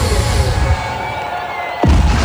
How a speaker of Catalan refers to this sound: Doncs sí, una gran rebuda, sens dubte, la que li està fent el públic del Megaplex Dance 2003 aquí al Palau Sant Jordi. Un bon aplaudiment, una forta ovació pel nostre company ….